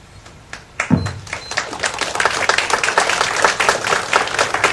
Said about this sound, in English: We don't need to applaud after each time, so that'll burn up a little few seconds here and there.